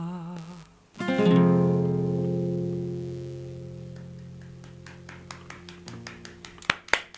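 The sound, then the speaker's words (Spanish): A lingering musical chord from a just-sung song fades out as one person starts clapping for the singer, slow and steady at first, then quickening, with the last few claps the loudest. “Voy a aplaudir yo así hay una.”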